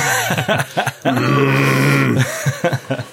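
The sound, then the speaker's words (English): Tug of war sound effect: strained human grunting and groaning of people heaving on a rope, short effortful bursts, then one long sustained strained groan of about a second, followed by more clipped grunts. “You have tug of war sounds.”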